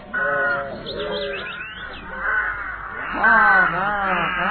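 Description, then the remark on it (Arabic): Crows caw in harsh, raspy bursts, several calls overlapping in an uneven rhythm, with the loudest squawks toward the end and a steady low background underneath. “وبينما راحت القطة تتجول، شاهدت مجموعة من الغربان أيضا، اقتربت منهم لأنها شعرت بالجوع.”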